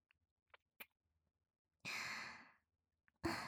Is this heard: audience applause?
no